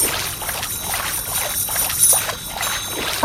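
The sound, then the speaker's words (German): Repeated sloshing splashes of water from a video game character wading through mud and water, in a steady rhythm at moderate loudness with no voices. “Wir befinden uns jetzt im Matsch. Im Wasser.”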